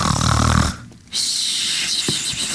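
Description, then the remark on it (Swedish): Someone snores once: a loud, low, rattling inhale, a brief pause, then a long airy breath out that hisses steadily until the end. No one speaks. “Och där ligger han och sover jättegott.”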